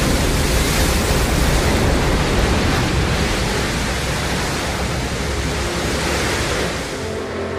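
A rocket booster returning from a crew capsule launch fires its engines for landing and touches down: a dense, steady wall of rumbling noise across all pitches, loud throughout and easing slightly in the final second, with no voices.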